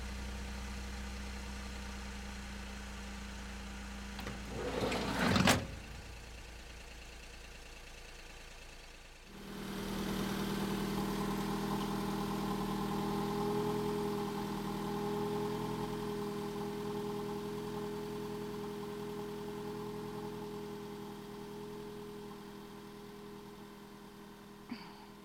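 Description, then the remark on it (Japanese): A bus engine idles steadily at a stop with a low, droning hum, rising into a louder, fuller rumble partway through after a brief burst of noise, then holding steady with no one speaking. “なんで乗らなかったの？次、バス来るの1時間後だよ。”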